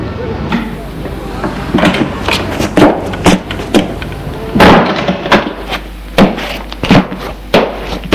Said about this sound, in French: Enfin, la porte de l'immeuble s'ouvre et apparaît Gérard.